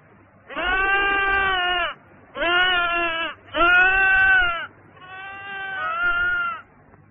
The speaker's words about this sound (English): I hear a sheep.